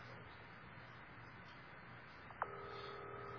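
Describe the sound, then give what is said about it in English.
Telephone tones as a call is placed to the neighbouring phone: after a soft hiss, a click gives way to a steady electronic two-pitch tone that holds clearly to the end, moderately loud over faint background noise. “So they're calling the phone next to them now.”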